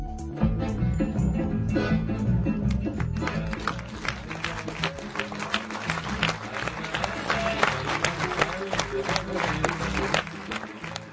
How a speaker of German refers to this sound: Beifall für den neuen Dokumentarfilm von Markéta Nešlechová.